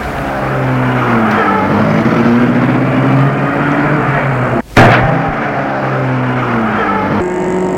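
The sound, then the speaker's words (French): A woman starts her car and drives off; the engine runs loudly, revving with rising pitch as it pulls away, broken by a brief sharp clunk midway before the steady engine drone resumes. “Et elle met la voiture en route.”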